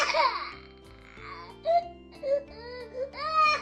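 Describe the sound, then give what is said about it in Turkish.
A frightened baby panda, Bobo, cries and screams in shrill, quavering wails as a snow leopard runs toward it, several rising and falling bursts over steady background music, growing louder toward the end. “Çok korkan Bobo bağırarak ağlamaya başladı.”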